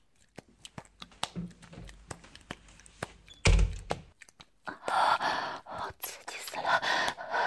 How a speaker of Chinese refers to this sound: 啊，你别进来了。啊，我关门了。